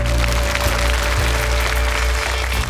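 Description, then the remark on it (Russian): A crowd applauds steadily and loudly, a dense wash of clapping that holds evenly from start to finish, with a low musical drone faintly underneath and no voices. “Ваши аплодисменты.”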